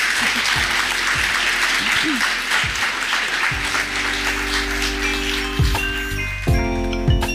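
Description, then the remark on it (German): Sustained audience applause, a dense wash of many hands clapping steadily, with faint tonal clinks and murmuring voices underneath. “Es ist auch mal ganz schön, Applaus zu bekommen.”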